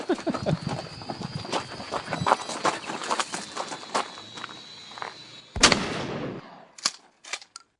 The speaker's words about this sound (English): First shot. Nice. And then the perspective from the drone as it gets shot.